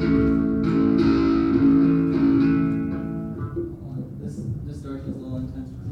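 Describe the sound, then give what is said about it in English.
A short burst of a song about Thousand Oaks, California, played through a distortion effect: thick, buzzing sustained tones ring loudly for a few seconds, then settle into a quieter, rougher texture. “I just started playing with distortion.”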